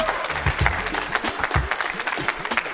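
Students from Abington Middle School clap steadily to welcome a guest, a dense, continuous wash of many hands with occasional louder bursts and whoops, sustained for a few seconds without any talking.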